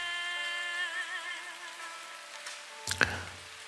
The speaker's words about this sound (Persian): صدای بارون خودش صد تا آهنگه.